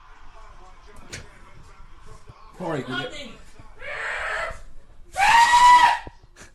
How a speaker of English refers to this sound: Screaming, like, you're relaxing, yeah? Screaming over soup. Punching a sink because of your fucking soup.